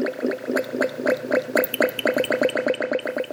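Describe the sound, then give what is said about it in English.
Fermenting cider bubbles steadily, a continuous stream of gurgling pops in a quick irregular rhythm with no voices. “It's music to my ears at this time of year, the bubbling sound of fermenting cider.”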